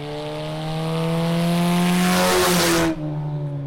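A white 2006 Cobalt race car, number 99, driven by a 15-year-old at the Ona Speedway, roars loudly, holding a steady high rev while a rushing wind-and-tire noise swells, then cuts off abruptly as the car speeds past.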